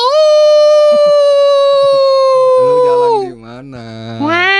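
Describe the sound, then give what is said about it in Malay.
Someone imitates a wolf with one long, steady howl that holds a mid-pitched tone for about three seconds, then slides down and breaks into lower wavering sounds before rising again at the end. “Kalau au itu mah ketahuan serigala.”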